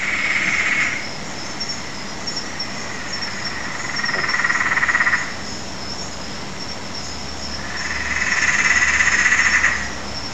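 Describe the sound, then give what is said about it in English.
A Peron's tree frog gives three long, rattling cackle-like trills a few seconds apart, fairly loud, over a steady high drone of night insects, at a house in Gordon, Sydney, Australia, at night. “That's a Perrin's tree frog. It's sometimes known as the maniacal cackle frog, because that's what it sounds like it's doing.”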